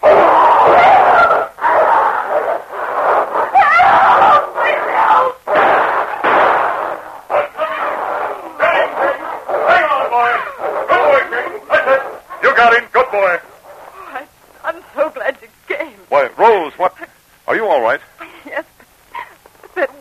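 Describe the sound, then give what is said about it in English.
A dog named King and a wolf fight, with loud, rough snarling and growling churning nonstop at first, then breaking into choppier bursts of snapping snarls and yelps. “But at that moment, another gray form sprang from the darkness as the huge body of King hurtled straight for the wolf's throat.”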